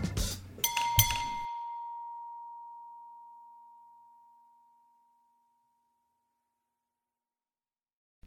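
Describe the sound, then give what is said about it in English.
A bell dings: a brief clatter of metallic strikes, then a single clear mid-pitched tone rings out and slowly fades away over several seconds into silence. “You can ding my bell.”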